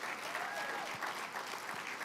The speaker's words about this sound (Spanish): Vamos, un aplauso más fuerte al Señor, a ver.